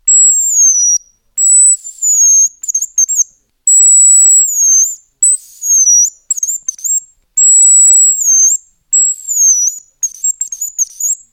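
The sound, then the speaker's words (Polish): A hunting lure imitates the whistling call of a male hazel grouse, which it uses to locate a rival: thin, very high-pitched whistles, long drawn notes followed by quick trilling flourishes, repeated in four phrases with no talking. “Dźwięk, który przed chwilą zaprezentowałem, wydaje samiec, kogut, jarząbka, w ten sposób lokalizując innego konkurenta i przeganiające go ze swojego terytorium.”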